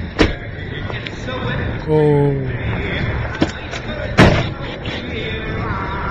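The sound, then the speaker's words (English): A woman's car door bangs into another car, with sharp metallic thuds at irregular intervals, the last one loudest, over steady background noise and a brief tonal cry. “I know you didn't think anyone would catch you, but you just slammed your door into my car.”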